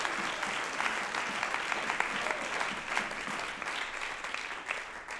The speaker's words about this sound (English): Somebody clap your hands unto the Lord if you're excited about where we're going.